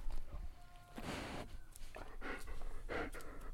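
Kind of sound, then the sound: animal, dog panting and licking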